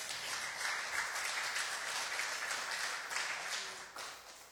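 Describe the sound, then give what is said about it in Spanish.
An audience at a sermon breaks into sustained applause to God, a dense crackle of many hands clapping steadily for several seconds before easing off slightly at the end, with no voices standing out. “Y yo quiero que usted aplauda a Dios por eso.”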